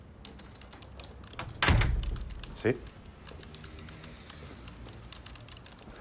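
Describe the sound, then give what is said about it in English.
A middle-aged woman types in an office: soft, irregular clicking of keyboard typing runs through the background, interrupted by a louder thump and a brief spoken word, with a second sharp knock shortly after. “A middle-aged woman sits typing.”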